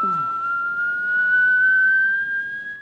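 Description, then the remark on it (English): A kneeling man, his face at lock level, whistles into a metal door lock: one long, sustained note that slowly rises in pitch, clear over a faint background hiss, with a brief low rumble at the very start. “He whistles into the lock.”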